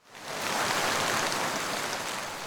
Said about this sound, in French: Mais soudain, il se met à pleuvoir abondamment.